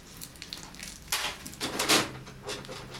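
Someone rummaging through a drawer holding tapes, looking for music: a run of irregular rustles, clicks and clattering knocks of shifting objects, louder bursts around the middle, with no voices.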